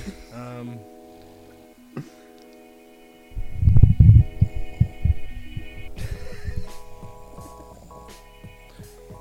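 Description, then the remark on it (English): A man snoring, with a burst of low, rough, rumbling snorts lasting a few seconds, set against a steady background hum. No one speaks. “Just him snoring.”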